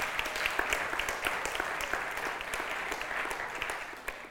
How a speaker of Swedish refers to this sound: Ja, det är värt en liten applåd.